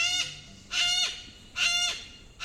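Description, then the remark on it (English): Harsh, raspy yellow-crested cockatoo screeches repeat roughly every 0.8 seconds, each loud burst rich in overtones with a noisy, grating edge; no one speaks, just the calls against faint background noise. “Yellow-crested cockatoos are victims of their own charisma.”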